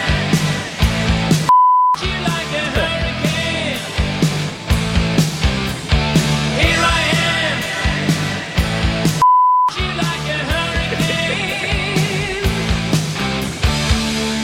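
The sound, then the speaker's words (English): A loud rock song is cut twice by a steady, high-pitched censor bleep, about a half-second each, with the music briefly dropping out under each tone before the band and vocals resume. “Beep would grind on you after a while with the radio version.”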